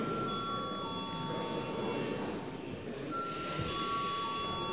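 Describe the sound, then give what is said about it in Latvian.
A steady electric bell rings continuously in the Saeima (Latvian parliament) to call a secret vote on approving a judge, a sustained bright tone with a brief dip midway, over a murmur of room noise and shuffling. “Lūdzu zvanu.”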